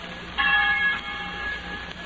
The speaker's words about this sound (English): Soon, from hundreds of well-loved college halls, the bells will ring out to welcome nearly 2.5 million young Americans.